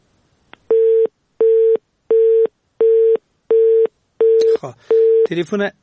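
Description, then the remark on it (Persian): A click on the line as a phone call with an official is cut off during a radio program, then a telephone busy tone: seven steady, evenly spaced beeps, fairly loud. A voice starts talking over the last couple of beeps. “تلفن در رئیس ایبام قطع شد.”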